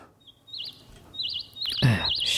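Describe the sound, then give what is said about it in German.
A bird chirps repeatedly in short warbling trills, a few evenly spaced calls at moderate volume, with a brief rustling noise partway through and no talking. “Also der Vogel da ist gemeint.”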